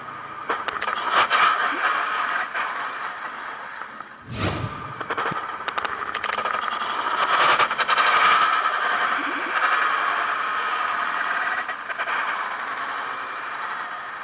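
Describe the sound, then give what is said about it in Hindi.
A motorcycle engine drones and rattles steadily amid traffic noise, fairly loud throughout, with one sudden sharp burst of noise partway through; from a clip of a motorcycle accident. “ये क्लिप मुझे दिखाया गया तो सच्ची बात है कि वो क्लिप देखते हुए मेरे भी, जिसको कहने के क्या कहूं, कि तबीयत अजीब गरीब हो गई कि इस तरह भी कोई बाइक चलाता होगा और इस शख्स के साथ क्या बीती होगी जिसके साथ ये हादसा हुआ है।”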